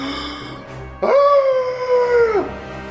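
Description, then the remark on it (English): The Sabasan monster's deafening Fell Shriek, a cry in a 30-foot cone, bursts in suddenly, a loud, sustained howl-like cry that holds a steady, slightly wavering pitch for over a second before sliding down and cutting off. “Sabasan emits a deafening cry in a 30-foot cone.”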